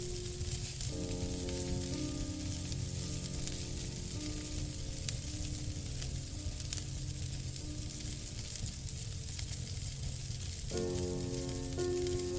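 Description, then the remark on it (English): A steady crackling fire hisses softly, with a few sharp pops standing out, layered over a low sustained harmonic drone that fades briefly and returns near the end. “There is no light leaking in from anywhere, and all you can hear is the relaxing, cozy sounds of the occasional pop and hiss from the fire that radiates and nurtures your comfort more and more.”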